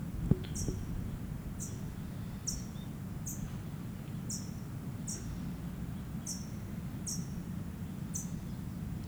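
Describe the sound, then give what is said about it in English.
Sharp, high-pitched chip calls from two parent birds moving rapidly around the microphone repeat roughly once per second, fairly even in rhythm, over a steady low rumbling background. No one speaks. “Both parents are around me. Moving rapidly around the mic.”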